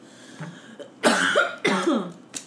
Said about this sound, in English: That's not even her really coughing. It's just a sound effect that we have. Yeah, we're just adding this. We're just hitting the button.